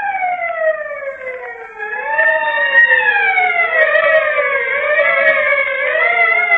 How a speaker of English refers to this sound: They must be close. That's the Arago Hill siren. They're close.